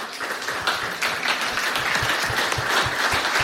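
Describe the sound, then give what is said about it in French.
An audience applauds steadily for four panelists at the end of a panel discussion, a dense wash of many hands clapping at a fairly even volume, with some individual claps punching through low and regular. “Merci à vous quatre pour vos interventions et je pense qu'on peut les applaudir”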